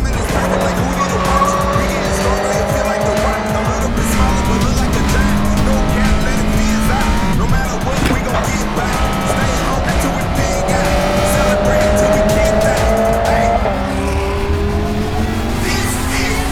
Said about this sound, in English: Green is in the air. We are back to racing action.